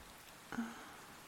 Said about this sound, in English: Let's watch the rain together for a bit.